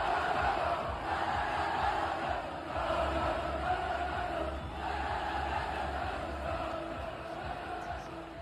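A large street crowd in Seville at Christmastime shouts and chants together in rhythm to a song, a loud, dense roar of many voices that surges and swells in steady waves for the whole stretch.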